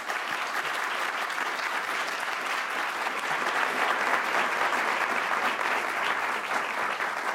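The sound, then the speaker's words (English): An audience breaks into a steady round of applause, dense clapping that holds at an even, loud level for several seconds without pause or voices. “But first, let me just point to them and ask you to give them a round of applause.”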